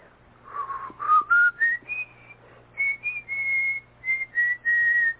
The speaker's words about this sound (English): a little after midnight, just after I'd gotten into bed, I heard it, the whistling. It was an old tune,